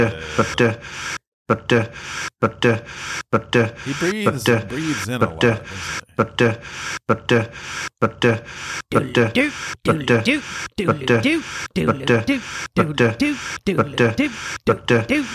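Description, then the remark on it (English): A voice imitates heavy breathing, repeating loud, rhythmic, breathy huffs and gasps, with short pauses between bursts, over about fifteen seconds. “Yeah, he does do a lot of breathing.”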